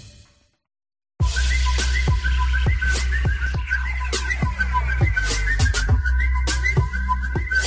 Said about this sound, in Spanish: Seguro que te suena este sonido que vas a escuchar. Efectivamente, es el sonido muy conocido del WhatsApp, pero también del nuevo reto viral que se está realizando en esta red social de mensajería.